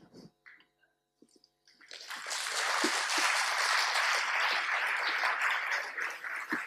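After a couple of seconds of near quiet, an audience of newly admitted students at the École des Ponts bursts into steady, loud applause for a speaker, a dense crackling wash of many hands clapping that holds without letting up through to the end.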